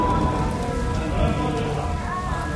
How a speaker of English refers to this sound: February 3rd was a particularly lousy Friday. Rain, then hail.